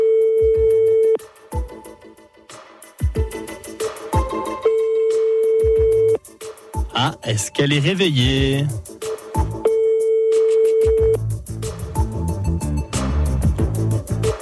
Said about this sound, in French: On fait sonner un téléphone, je le rappelle, du côté de Célestat, une personne qui fête son anniversaire aujourd'hui, le 27 décembre.